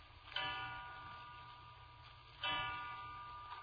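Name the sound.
clock striking the hour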